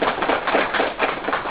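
An audience claps together in a steady burst of applause, a dense crackle of many hands that stays even in loudness throughout, with no voices over it.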